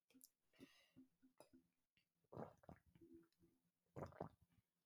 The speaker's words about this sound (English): Stop chugging my water. I wonder how those gulps sounded.